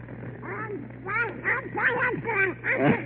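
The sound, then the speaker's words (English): A raspy, quacking Donald Duck voice sputters several garbled bursts in quick succession, fairly loud, over a steady low hum; it's a person imitating Donald Duck while seeming to talk. “Donald Duck, do you like that, all right?”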